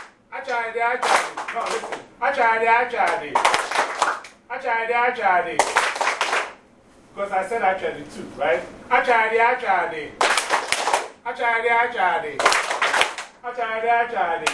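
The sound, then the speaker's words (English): An audience claps in rough unison on the spoken cue word "Achadi", with sharp, bright claps landing at irregular intervals. The loud bursts break through the voice of a speaker who leads them and keeps talking almost continuously over the claps. “Achadi means just clap.”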